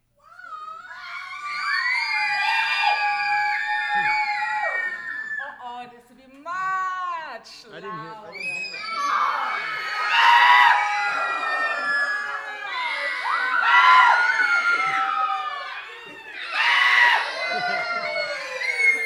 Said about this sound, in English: Who knows how to scream? Oh, okay, now then you have to let me really hear it.